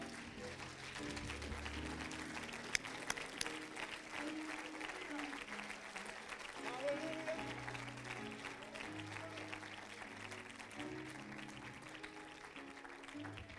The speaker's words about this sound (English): Put your Bibles down and clap your hands and praise the name of the Lord.